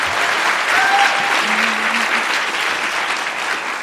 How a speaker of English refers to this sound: I heard you guys clapping at everything. This is going to be so easy.